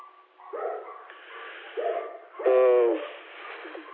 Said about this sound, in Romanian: Da, sper că m-am auzit prin lătrături pe aici, n-am ce să fac.